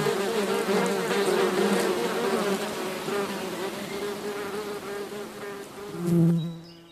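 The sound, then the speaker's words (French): A dense, steady drone of many bees buzzing, a continuous humming swarm that swells slightly near the end before fading. “Les abeilles, ça s'appelle.”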